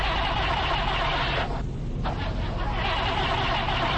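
A car engine at a gas station, with oil poured into its fuel tank, cranks and grinds steadily without catching. It makes a loud, continuous mechanical whir that briefly thins out midway before carrying on, with no clear voices over it.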